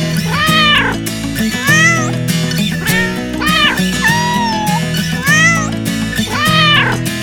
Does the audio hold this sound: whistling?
no